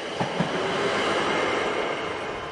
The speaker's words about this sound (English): Under new management, trains kept chugging along the mountain route until 1940.